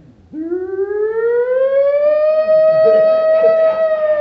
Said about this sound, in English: But when I finally dropped off to sleep, finally snoozing real good, I was awakened by this loud siren that was next door with the next door fire station.